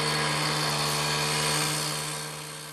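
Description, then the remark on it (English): A chainsaw runs steadily in spring, with a loud, buzzing engine drone and a harsh, hissy whine that holds for a few seconds before easing off slightly at the end. No one speaks. “The sounds of spring cut in two by a consaw.”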